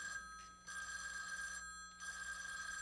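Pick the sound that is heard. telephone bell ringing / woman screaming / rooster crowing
telephone bell ringing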